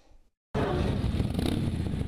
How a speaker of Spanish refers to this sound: Un sonido esperado por muchos, sobre caballos de acero y atuendos de piel, los motociclistas atravesaron la frontera y recorrieron la ciudad con un propósito.